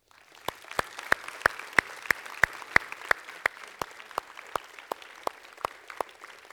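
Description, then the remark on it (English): An audience applauds steadily, a diffuse wash of clapping with sharp, evenly spaced claps standing out at a quick, regular beat, moderately loud and sustained, with no voices over it. “Can we clap?”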